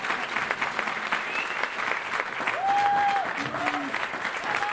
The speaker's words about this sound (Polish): Te oklaski są najważniejsze w sumie, dlatego że ja po prostu od dzieciństwa zawsze lubiłam deklamować, lubiłam teatr, lubię mówić, lubię mieć kontakt z ludźmi.